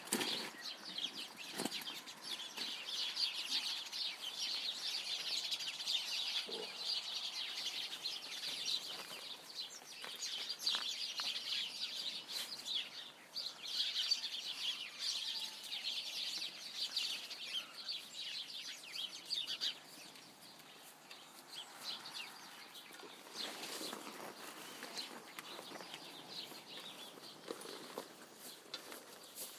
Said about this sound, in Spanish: No sé, los pájaros por aquí están bastante revolucionados. No sé si anuncian lluvias o qué.